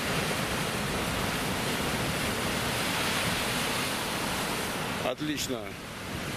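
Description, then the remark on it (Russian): Loud, continuous roar of a big sea wave crashing onto rocks and stones, a dense wash of crashing water, with a man's voice speaking briefly near the end. “Идет хорошая волна. И сейчас как? По каменюкам.”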